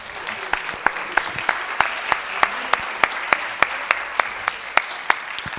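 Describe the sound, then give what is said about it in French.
A small audience at a meeting applauds themselves, clapping steadily, a dense patter of hands with a few sharper, louder claps standing out, sustained evenly for several seconds with no voices. “Voilà, alors si on peut faire un petit applaudissement pour nous.”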